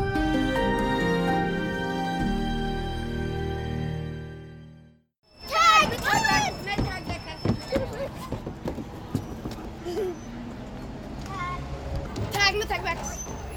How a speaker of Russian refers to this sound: В парке района Ричмонд в Мельбурне компания детей младшего школьного возраста играет в пятнашки, а их мамы рассуждают о вакцинах против COVID-19 для детей в возрасте от 5 до 11 лет.